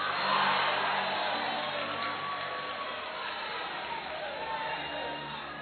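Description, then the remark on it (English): An audience shouting all at once, a dense, continuous wash of overlapping voices that holds steady and loud for several seconds, with no single speaker standing out. “If you keep shouting, I can't continue.”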